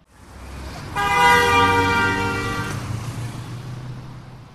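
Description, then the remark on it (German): A single sustained car horn blares loudly for nearly two seconds over a low rumble of engine or traffic noise, which continues after the honk stops. “Für mich ist die Umweltsau des Jahres, des Jahrzehnts und des Jahrhunderts das Auto.”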